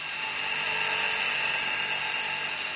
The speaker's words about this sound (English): What it actually does, it's a remote-controlled machine that actually goes into the minefield. And chains and cutters on the front spin at 1,300 RPMs and clear all the vegetation ahead